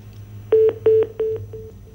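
A telephone line's disconnect tone after a listener on a live call-in broadcast hung up: a few short, evenly spaced beeps at a steady pitch, the last ones fading, over a low background hum with no talking.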